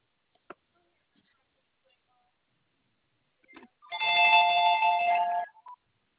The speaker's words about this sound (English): My landline is ringing.